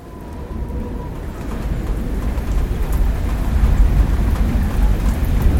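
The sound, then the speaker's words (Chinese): Heavy rain drums on a tin roof on a windy night, in a dense, unbroken roar with a deep rumbling low end, swelling gradually louder over the few seconds. No voices. “一整晚风大雨大，雨水敲打着铁皮屋顶，一下咚咚咚，一下哐哐哐。”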